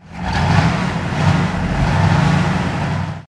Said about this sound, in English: A big car drove past and everyone cheered and waved. The children couldn't see who was inside the car. Perhaps it's the Queen, said Biff.